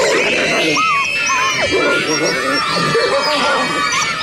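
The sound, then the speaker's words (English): Wolves fight over one wolf in heat, snarling and growling in a loud, continuous tangle of overlapping voices, with sharp rising yelps and whines cutting through the rough, harsh din. “And then suddenly the wolves went for it. They were absolutely hammering each other.”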